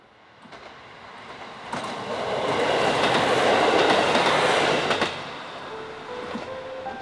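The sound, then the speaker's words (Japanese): A train on the JR Sekihoku Main Line in Kitami, Hokkaido, Japan rumbles along railway tracks, swelling as it passes with rhythmic wheel clatter, then fading into a lighter rolling hum; no voices. “北海道北見市を通る JR 石北本線。”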